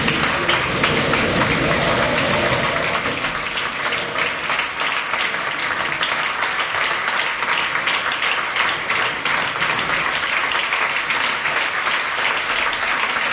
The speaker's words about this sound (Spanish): Pues son las palabras de Mariano Rajoy, los aplausos de, lógicamente, toda la gente del PP que ahora mismo está asistiendo en directo a esa despedida, como también hemos asistido nosotros.